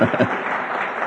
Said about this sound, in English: But you heard there was some echoing applause in this side of the room.